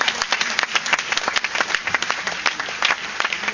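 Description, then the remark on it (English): A crowd claps steadily and loudly for several seconds as a clap of praise to God, a dense, sustained burst of applause with sharp overlapping hand claps and no voices standing out. “Isn't give God a super clap of praise.”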